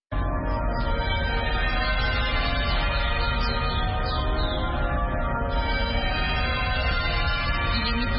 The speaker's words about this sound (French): Les cloches de la cathédrale Saint-Georges sonnent pendant 10 minutes. C'est ici que Desmond Tutu fut archevêque de 1986 à 1996.